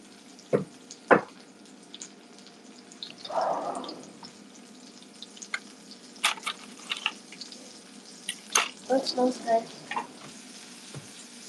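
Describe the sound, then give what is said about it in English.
Zucchini frying in a pan, a steady crackling sizzle with scattered sharp pops and a few scraping stirs, moderately loud with no talking. “I'm cooking the zucchinis right now.”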